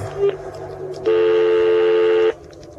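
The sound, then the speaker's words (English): A short electronic phone-keypad beep, then a second touch-tone held steady for over a second, loud, with faint background murmur between the tones, as someone dials a telephone to make a phone call. “Making a phone call.”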